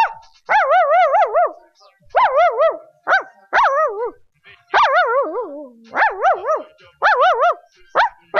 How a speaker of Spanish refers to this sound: Aquí nos está acompañando el perrito Pipo.